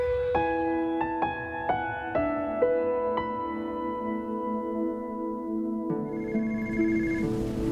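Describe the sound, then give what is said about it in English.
A telephone rings with a melodic, chiming tone: a quick run of bright notes that linger and overlap, a short lull, then one more note. Clear, with no voices. “phone's for you.”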